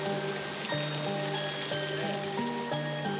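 Water steadily splashing and dripping from a large wooden noria water wheel that lifts water from a canal beside a road along gardens, turned by the water current; a dense patter with low groaning creaks that shift pitch in a repeating rhythm; no one speaks.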